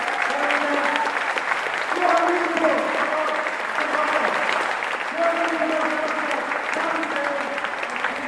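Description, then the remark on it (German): Sustained audience applause for all the performers of a slam competition as the last talk ends, a dense, steady wash of clapping at constant loudness, with faint voices and cheers rising through it. “Nochmal für alle einen Applaus.”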